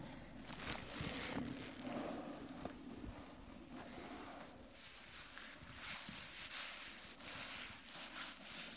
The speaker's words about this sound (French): J'adore le son des vagues.